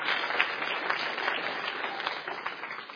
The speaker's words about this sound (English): If you enjoyed that, say amen. If you'll pray for them, give them a round of applause. I love them. I'm glad you get to meet them.